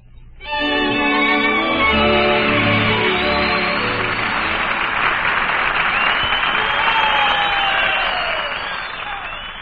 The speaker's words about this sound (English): And there's the final curtain, and applause for Barbara Luddy and Olin Soule playing the leads in tonight's presentation, A Song for Sylvia.